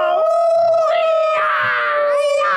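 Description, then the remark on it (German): A man's voice lets out a long, loud jungle-man yell while drumming on his chest, holding a high wavering note with yodel-like breaks for a few seconds, imitating the famous vine-swinging cry. “Ich kann jetzt nicht genau wie Tarzan”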